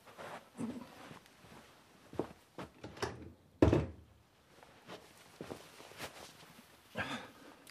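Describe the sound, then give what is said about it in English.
A door shuts with one solid, loud thud midway through, surrounded by quieter shuffling movement and a few soft knocks and bumps before and after. “Close the door, if you will.”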